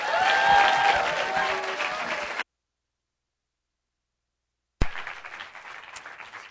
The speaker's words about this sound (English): And so with that in mind, as I introduce our speaker, will you give a great big thank you and a round of applause